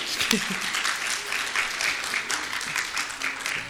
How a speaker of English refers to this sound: So good to have you guys. We've missed you. And as a church body, we're going to clap because we missed you that much.